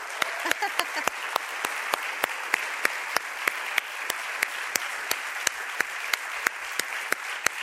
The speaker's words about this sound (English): So if you just happen to be a high schooler or a college individual who just graduated, like within the last couple of weeks, would you stand up? We want to honor you with an applause.